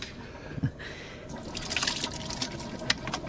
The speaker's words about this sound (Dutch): En hij gaat nu met een soort roeispaan in de pannen roeren.